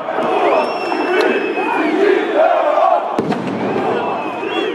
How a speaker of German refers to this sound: Während die schätzungsweise 40.000 Demonstranten zum ganz überwiegenden Teil friedlich bleiben